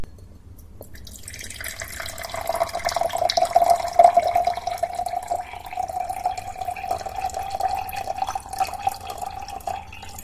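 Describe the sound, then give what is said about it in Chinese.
Water pours steadily into a glass for about ten seconds, a continuous splashing stream with a ringing mid-pitched tone running through it, growing a little louder midway. No one speaks. “那就去倒杯水给我送来啊，我渴了，小狐狸。”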